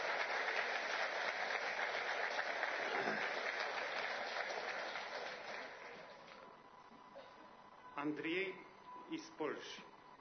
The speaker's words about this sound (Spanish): Próxima pregunta. Están aplaudiendo.